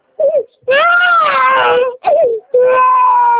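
A baby boy cries loudly in several drawn-out, wavering wails separated by short gasping breaths.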